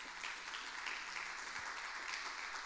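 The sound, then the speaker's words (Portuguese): An audience applauds for Jesus steadily throughout, a dense, sustained wash of many hands clapping at once at even loudness, with no voices heard. “Se você querer dar uma salva de palmas a Jesus.”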